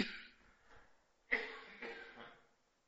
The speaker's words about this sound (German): Ob das jetzt der Husten ist, keine Sorge, ich bin nicht ansteckend.